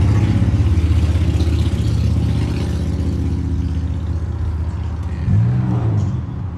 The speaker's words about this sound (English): Yeah. What is everyone with a fucking loud car on? Fuck our audio tonight.